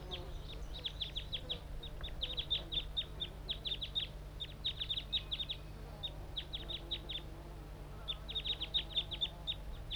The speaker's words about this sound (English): Perhaps the wild bird is also calling.